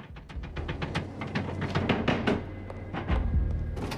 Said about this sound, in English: Kathy desperately knocks on the door of the Amityville Public Library.